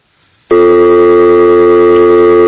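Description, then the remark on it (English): A loud, steady electronic phone-line tone cuts in abruptly after a brief near-silence and holds unbroken to the end: the tone heard after a caller hung up. “Ron hung up. Yeah, I guess that was the hang up.”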